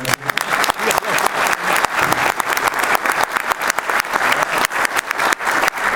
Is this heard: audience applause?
yes